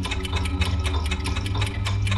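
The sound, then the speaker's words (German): Five cuckoo clocks, each set to a different time zone, ticking together, a steady run of quick, bright clicks that overlap into a busy rhythm over a low constant hum, with no voices. “Kobler sah angespannt auf die Kuckucksuhren. Die Sekunden tickten.”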